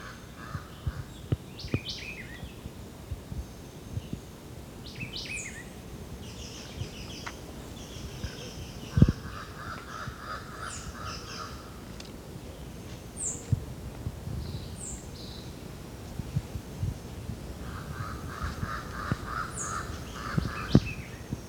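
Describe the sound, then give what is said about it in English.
Jabbering crow calls come in several harsh, chattering bursts, interspersed with thin, high chirps from a Jamaican white-eye about 30 meters away in dense vegetation along a ridgetop, against a quiet outdoor background. “It's the white eye again. Jabbering crow. Jamaican white eye.”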